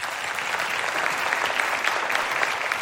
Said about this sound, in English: So I want you to clap